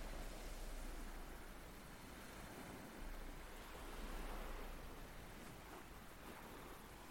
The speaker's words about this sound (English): These waves you can hear aren't just in your head. They were recorded at Deal in the sunshine after the partial eclipse on the 10th of June 2021.